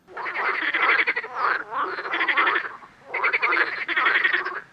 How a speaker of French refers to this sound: Sais-tu croasser comme une grenouille en été?